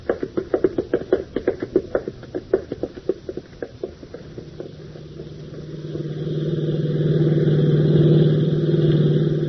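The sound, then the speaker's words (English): A car engine chugs with rapid, rhythmic knocking, then settles into a loud, steady drone as it accelerates while driving in heavy traffic. No one speaks. “Pop, keep your eyes on the road. Traffic's awfully heavy.”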